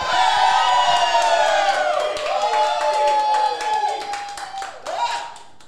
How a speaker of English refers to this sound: But once again, let your feelings be heard. Laugh out loud, clap loud. Do we still have that energy from earlier?